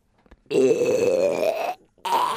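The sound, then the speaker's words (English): A long, throaty, wet burp, deliberately forced and loud, rumbling for over a second, followed by the start of a second belch-like sound. “We've got burp, throaty, wet, forced.”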